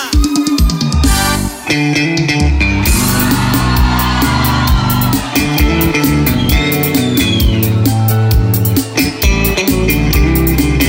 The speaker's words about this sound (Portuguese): Porque essa música, quando eu canto essa música, o povão faz o quê? O povão faz o quê? O povão grita!